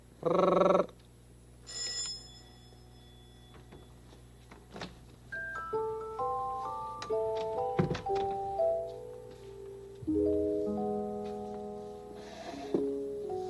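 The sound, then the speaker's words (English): A doorbell chime plays a melodic run of clear, bell-like tones stepping up and down in pitch, following a brief loud burst at the start, with no talking over it. “It's because we have a doorbell. Could you make that sound? With your mouth and your tongue. Okay. Please ring.”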